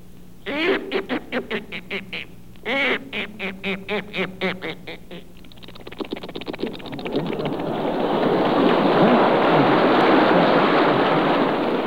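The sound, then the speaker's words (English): A voice imitates a duck going into the water, giving a string of rhythmic quacks that speed into a rapid flutter, then dissolves into a long, steady hiss like a splash into water. “First here is Duck Going Into the Water.”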